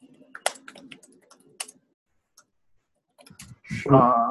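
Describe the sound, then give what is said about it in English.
A burst of keyboard typing into a small text box, a run of crisp key clicks, trails off into a short silence before someone starts talking. “I was typing in a little box.”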